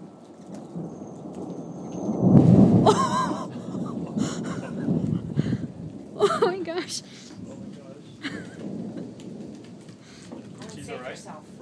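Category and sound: nature, thunder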